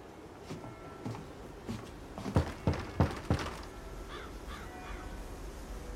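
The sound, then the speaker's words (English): A man wearily climbs steps to a veranda with a few soft footsteps, then knocks four firm times on a red wooden door in a quick, even rhythm, with crows cawing faintly afterward. “Climbing steps to a veranda, Will treads wearily to a red door and knocks.”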